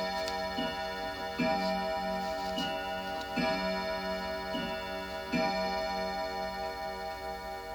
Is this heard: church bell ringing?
yes